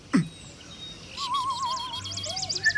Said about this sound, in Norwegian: Og hør på alle fuglene der ute.